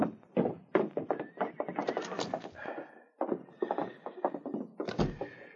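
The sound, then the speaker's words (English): Horses neigh and whinny while hooves clop unevenly on hard ground, mixed with a few dull thumps, moderately loud, with no talking; the horses are being left at the back of a small roadhouse. “the outlaws left their horses in back of the small roadhouse and followed Chet to the front door”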